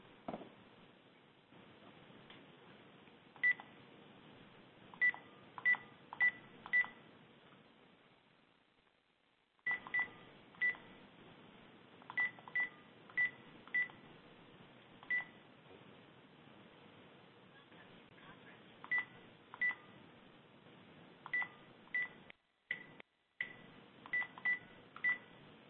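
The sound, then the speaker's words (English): A series of short telephone keypad tones beeps out in irregular bursts over a steady line hiss as someone dials back into a conference phone line, with a brief dropout partway through and a couple of abrupt cutouts near the end. “I'm just going to dial back in to the phone line so we don't lose our participants on the phone line.”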